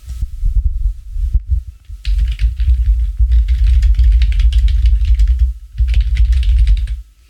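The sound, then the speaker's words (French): Rapid typing on a computer keyboard, a dense flurry of key clicks that runs steadily for several seconds with a brief pause, over a low, constant rumbling hum. “Et là, je vous fais une belle sonate de clavier.”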